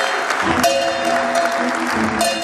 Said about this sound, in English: Senior oil officials rang a gold bell, marking the start of trading of Aramco shares.